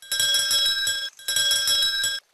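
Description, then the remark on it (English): A big bell, rung by Uncle Bob when the food cooked on the grill is ready, rings in two loud bursts of rapid, continuous metallic clanging, each lasting about a second with a brief pause between, clear with no voices. “He rings a big bell when everything is ready.”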